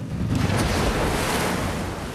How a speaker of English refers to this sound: Apprehensively, Edie watches as he kickstarts his motorbike and sends it into the lake.